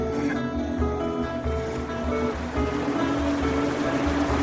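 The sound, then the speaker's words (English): The River Fain, which forms the border between County Monaghan and County Armagh, flows in a steady, unbroken rush of water, moderately loud, with a low churning rumble underneath and no voices. “This is the River Fain.”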